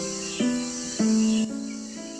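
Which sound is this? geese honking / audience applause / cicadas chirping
cicadas chirping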